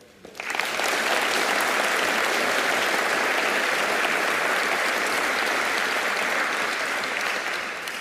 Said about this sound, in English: That's why we felt it was so important to come on stage as an ensemble and get this very deserved applause.